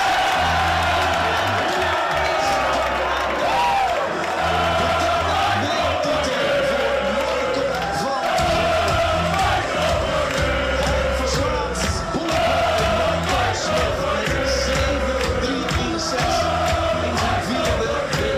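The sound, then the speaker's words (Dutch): A crowd of 400 people erupts in loud, sustained cheering for a winning dart in a darts World Championship final against Michael Smith, with whoops, yells and roaring voices blending into a constant wall of noise that never lets up. “Je hoort hier 400 man die helemaal losgaan naar je winnende pijl in de WK-finale tegen Michael Smith.”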